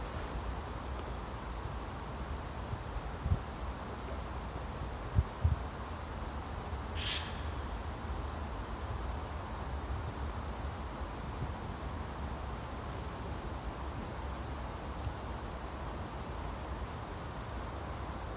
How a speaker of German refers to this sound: Also, wenn man jetzt einfach mal die Fresse hält. Ja. Hört man die Autobahn. Das Meeresrauschen.